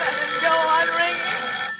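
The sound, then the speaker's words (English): A telephone bell rings in one steady, continuous burst, bright and fairly loud with no voices, then cuts off just before the end. “Even if it goes on ringing all night, I won't answer it.”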